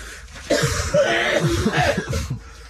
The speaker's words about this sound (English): I'm going to cough again. Can you fill in for me, please?